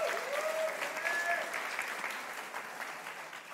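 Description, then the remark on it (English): An audience claps for the mothers present on Mother's Day in a dense, steady burst of applause with a couple of sharp whistles near the start, the clapping tapering off slightly toward the end. “You deserve a bunch of high praise and applause. All the moms, give it up for them.”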